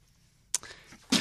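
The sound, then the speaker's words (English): Two sharp, splashy bursts of water being poured or splashed, a sudden dousing followed by a trickling wash and then a second heavy splash, fairly loud with no talking. “Okay, more water, please.”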